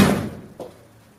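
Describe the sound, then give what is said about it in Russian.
A door shuts with a solid thud, followed about half a second later by a softer latch-like knock, then quiet fading room tone. No one speaks. “Не забудь только дверь закрыть.”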